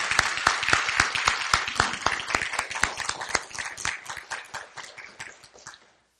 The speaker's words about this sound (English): If you served at all during our military? Thankful for those. Let's go ahead and give them a round of applause.